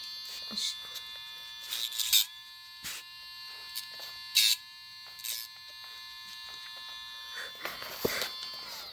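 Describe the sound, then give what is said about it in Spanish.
An electric nail grinder, a rechargeable nail sander, hums with a steady, high-pitched motor whine, broken by several short, harsher grinding bursts as it files the nail of Coli, a pet. “Y ahí metes la uñita y lo lija.”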